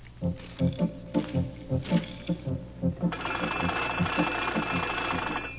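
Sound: telephone ringing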